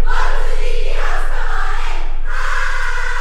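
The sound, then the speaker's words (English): A loud group of voices cheers and chants together in unison during sorority recruitment, from a Delta Gamma Sorority recruitment video at the University of Alabama, a bright, sustained wall of sound with a short dip before the singing swells again. “The cheers, the house tours, the rapid-fire meet and greets, they're all pretty standard recruitment procedures for large social sororities.”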